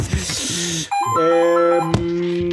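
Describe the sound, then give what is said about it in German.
An old-school house telephone in a basement rings loudly, a sustained electronic tone that steps between pitches and fills the space after a moment of background noise. “Das ist ein Haustelefon hier unten im Keller. Es klingelt leider pedantisch laut.”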